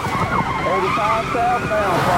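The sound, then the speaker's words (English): A sheriff's deputy's police car siren wails in rising and falling sweeps over a steady engine roar as the car speeds up in pursuit of suspects once traffic clears, loud throughout. “But once the traffic clears, he punches the accelerator.”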